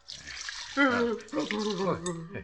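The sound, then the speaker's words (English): A short splash of water from a vase of flowers is thrown onto a man who has fallen, followed at once by a person's startled, drawn-out vocal sound that carries on over the remaining liquid noise. “Here, this water from my vase of flowers.”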